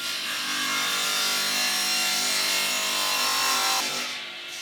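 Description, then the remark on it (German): A power saw in a workshop whines steadily as it cuts through a wooden board, loud, with a harsh, grinding roar that holds for several seconds before the cut finishes and the sound drops away. “Du kannst vielleicht nochmal an die Säge gehen und ein Brett zurechtschneiden. Dann stelle ich das ein und mache die Säge an und schneide das.”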